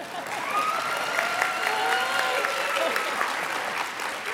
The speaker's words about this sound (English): Now's your clapping opportunity.